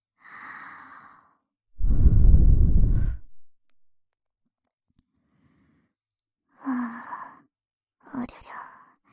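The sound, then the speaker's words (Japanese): A soft, cool breath blows across the microphone into the ear, one long airy exhale in the middle with fainter breathy murmurs before and after, intimate. “僕の吐息、ひんやりして気持ちいいでしょ。”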